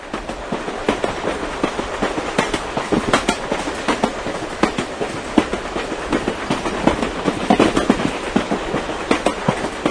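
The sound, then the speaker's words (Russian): A train rolls steadily along the rails, its wheels knocking out a repeated clickety-clack rhythm over a constant rumbling hum, heard from inside the train as a passenger rides along. No voices. “ехал в поезде.”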